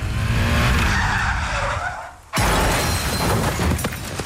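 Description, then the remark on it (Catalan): The car ahead brakes suddenly and a motorbike crashes into it: tires screech in a long, loud skid, then a sudden violent crash hits and crunching, clattering wreckage noise carries on. “De camí a la feina amb la moto, el cotxe del davant frenarà de cop. I xocaré.”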